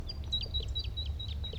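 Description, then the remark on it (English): A male songbird sings from a flock in a white pine, repeating thin, high chirps in a steady rhythm, about every fifth of a second, with fainter overlapping calls from other birds of the flock over a low rumbling background hum. “The rest of the flock is still in that white pine and the male is still singing over there.”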